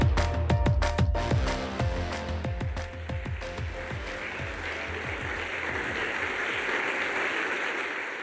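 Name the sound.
audience applause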